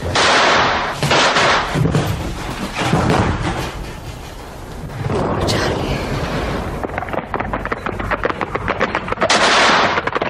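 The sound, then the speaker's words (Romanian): Loud rifle gunshots ring out in a dramatized action scene in a village, first scattered heavy blasts, then a rapid, rattling volley of sharp cracks firing in quick succession over noisy commotion. “Trag, grăbește-te, Rosalie.”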